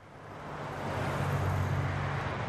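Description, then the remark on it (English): A fleet of PG&E utility service trucks rumbles past a neighborhood in Kahlua, Fresno County, a low engine drone with broad road noise swelling louder and holding steady, no voices. “Back in Kahlua, a fleet of PG&E service trucks rumbles past the neighborhood where the streetlights will turn off next week.”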